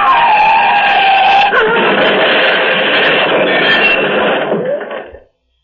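An out-of-control car, having jumped the divider, skids with tires screeching loudly, then a harsh crash hits as it rams head-on into a cylindrical bridge support, and a rough, noisy clatter of impact carries on for several seconds before cutting off.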